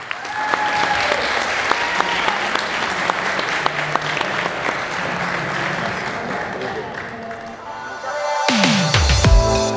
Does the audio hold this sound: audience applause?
yes